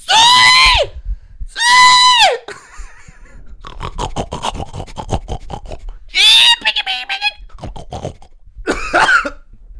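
Pigs squeal loudly in four sharp, high-pitched bursts, with grunting, snorting and scuffling noises filling the gaps between them as they are being caught in a competition.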